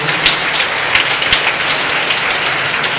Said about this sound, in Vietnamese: Xin cộng đoàn cảm ơn cha một lần nữa. Một tràng vỗ tay.